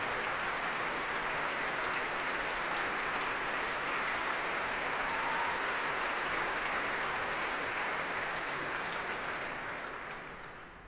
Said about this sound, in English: And you can hear the applause here in the Royal Albert Hall for the leader of the Royal Scottish National Orchestra, Maya Iwabuchi.